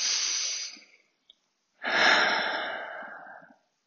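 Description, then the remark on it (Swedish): A slow breath drawn in through the nose, a short pause, then a longer, fuller exhale out through the mouth like a soft sigh, with no talking, as part of a guided breathing exercise. “Så du kan andas in genom näsan. Och så andas du ut genom öppen mun.”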